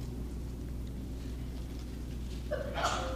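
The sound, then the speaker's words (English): A single sneeze at the end: a short voiced intake followed by a sharp, breathy burst, rising out of a steady low background hum. “Bless you.”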